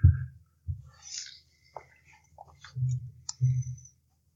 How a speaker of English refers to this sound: I must cough a minute. It's okay.